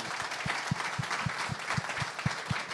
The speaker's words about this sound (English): So a big round of applause for these two gentlemen who have decided to come.